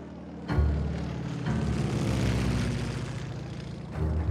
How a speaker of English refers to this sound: In mid-July of 1943, legend has it that a lone American fighter plane dipped low over Villalba, Sicily. A golden banner bearing a large capital L fluttered behind its tail.